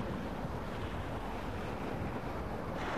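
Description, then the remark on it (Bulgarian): Rough sea waves surge and crash amid a steady roar of gusting, strengthening wind, a dense, continuous wash of noise on a ship's deck in a storm. “Морето може да бъде и зло.”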